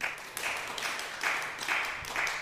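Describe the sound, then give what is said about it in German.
Scattered clapping from an audience answering whether they know what Mutterkorn (ergot) is, a steady patter of many hands at moderate volume that swells and eases slightly, with no voices over it. “Wisst ihr, was Mutterkorn ist? Einmal bitte klatschen.”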